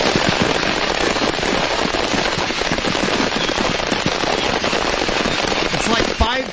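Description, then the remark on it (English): A dense, continuous barrage of firecracker-like explosions crackling and popping rapidly for several seconds, loud and chaotic: a pile of illegal fireworks confiscated by the NYPD, set alight together in a giant fire. “NYPD, they confiscate fireworks. Then they put them all in a giant fire and light them off.”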